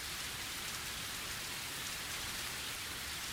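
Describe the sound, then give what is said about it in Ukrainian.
Heavy rain pours down on a cold morning under heavy clouds in a steady, dense hiss, a loud continuous wash of drops drumming on surfaces with no pauses and no voices. “Відмінно пам'ятаю цей холодний ранок, важкі хмари, лютий дощ.”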